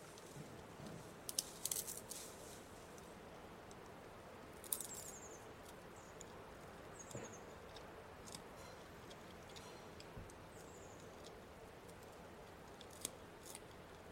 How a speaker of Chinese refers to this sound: 坐直了身子，用前爪抓住鲜嫩的竹子往嘴里送，吃得津津有味。他们美美地吃着竹子，尽情享受大自然的恩赐。